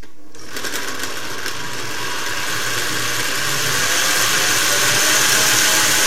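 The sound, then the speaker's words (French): A blender kicks on after a brief silence and runs continuously, a dense buzzing motor whir with a high whine that grows gradually louder as it blends cucumber soup ingredients with a pinch of Espelette pepper and a little water. “Je mixe.”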